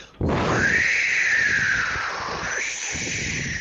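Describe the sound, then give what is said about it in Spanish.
A radio listener's WhatsApp voice note of a person imitating the wind with a breathy, airy whistle: one loud, sustained whoosh lasting over three seconds, its pitch slowly rising and falling, with no talking. “aparte de compartir esta anécdota con nosotros, nos envía nota de voz silbando como el viento.”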